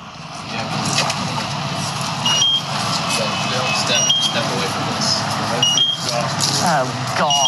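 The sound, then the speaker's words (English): Short, high electronic alarm beeps repeat about every second and a half, cutting through steady outdoor noise and muffled, indistinct voices telling people to step away from the house: a gas meter's warning alarm outside the door of a house. “Now, that beeping that you're hearing is their meter outside the door of our house.”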